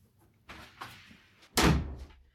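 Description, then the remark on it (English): A door swings with a soft brushing creak, then shuts with a single solid, fairly loud thud, ringing briefly before fading. No one speaks. “Yep, yeah, just close the door.”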